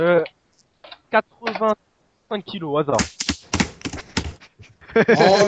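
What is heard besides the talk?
typing on computer keyboards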